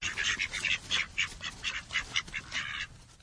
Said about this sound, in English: Jana keeps bantam ducks in her backyard.